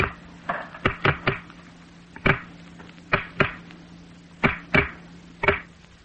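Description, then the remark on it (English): Pieces of wood slid forcibly over each other give sharp, dry cracks and creaks in irregular bursts, about a dozen over several seconds, some doubled, against a faint steady hum, with no voices. “That was the cracking of some pieces of wood slid forcibly over each other.”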